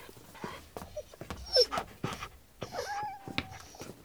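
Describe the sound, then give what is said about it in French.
A dog pants in quick, breathy bursts, broken by a few thin, high whimpers and whines. No one speaks. “À propos chats et chiens, oui, ils ont sûrement faim et soif.”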